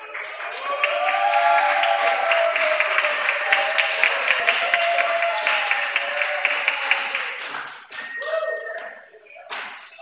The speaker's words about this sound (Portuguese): Desculpa, as palmas, tá ouvindo? É que minha amiga aqui comissionou.